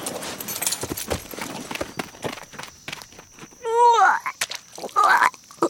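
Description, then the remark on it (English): Horses being brought in along with Wolf walk with a steady, uneven clip-clop of hooves, and partway through one lets out a short, wavering whinny before the hoofbeats carry on. “you can come in with Wolf and the horses.”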